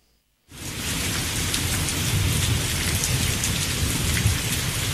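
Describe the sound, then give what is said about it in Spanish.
Heavy rain pours down in a dense, steady roar after a brief silence, loud, with water splashing and drumming continuously off the front of a radio station's roof, recorded from that roof. “Mirá cómo llueve. Audio tomado desde el propio techo aquí de la radio, la caída acá del agua del frente.”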